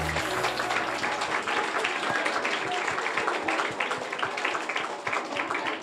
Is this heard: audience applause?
yes